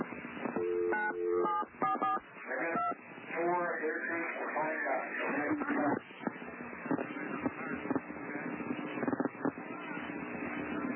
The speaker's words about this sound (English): listen as David Koresh dials 911. You can hear the 911 tones on the telephone